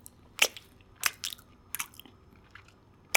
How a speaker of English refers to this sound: throws a handful of catnip in his mouth and starts chewing.